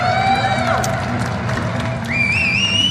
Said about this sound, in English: And nurses around the world have shown their resilience, and with that, they've garnered support. Communities around the world have made public shows of appreciation by clapping.